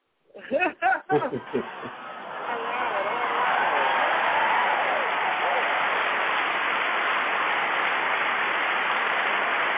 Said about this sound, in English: All right. Let me clap it up.